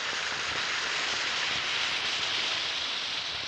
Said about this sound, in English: Just drop a tablet or two of Alka-Seltzer into a glass of water and listen to it fizz.